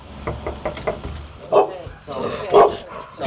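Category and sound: animal, small dog barking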